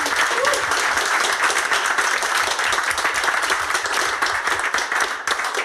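Sustained audience applause, a dense, steady wash of many hands clapping at once, loud and even for several seconds before easing slightly at the end. No voices stand out.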